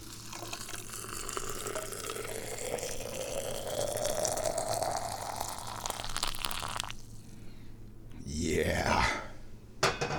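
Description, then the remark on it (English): Freshly boiled water is poured one-handed onto tea in a container, its gurgling tone rising in pitch as the vessel fills, then cuts off before a brief final splash and rising slosh near the end. “Here we go, pouring the water.”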